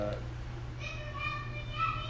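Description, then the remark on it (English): The speaker's young daughter yells in the background with high, drawn-out cries that start about a second in, over a steady low hum, with no one else speaking. “that's my daughter yelling, if you can hear that.”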